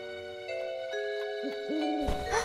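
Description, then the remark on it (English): An owl hoots twice in quick succession in the woods, low and mellow, over a steady humming musical drone, followed by a brief rustling burst of noise. No one speaks. “I think it was just an owl or something.”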